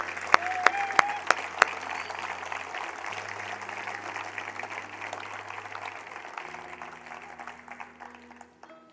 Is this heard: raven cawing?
no